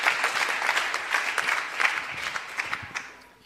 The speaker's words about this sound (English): They are really praying for years. They need a special applause. Sie brauchen einen besonderen Applaus. Seit Jahren beten Sie schon.